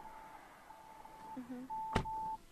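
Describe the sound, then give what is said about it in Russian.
A Santa Fe car's rear-traffic warning chime sounds as a door is opened while a car approaches from behind: a string of steady mid-pitched electronic tones, short ones first, then a longer tone, with a sharp door-latch click partway through. “Меня ничто не предупреждает о том, что сзади едет автомобиль.”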